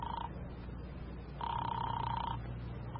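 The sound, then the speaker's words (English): A telephone rings on the line during a call placed to a newspaper in Chicago: a brief tail of one ring, then a pause and a single steady ring lasting about a second, over a low background hum. No one speaks. “I put in a call to Chicago and got the paper on the phone.”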